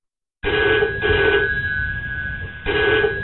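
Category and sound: signal or alarm, telephone ringing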